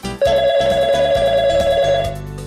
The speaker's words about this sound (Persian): آه، ای بابا، باز دوباره این زنگ زد. ببین، این تلفن رو بگیر، بگو بابام خونه نیست.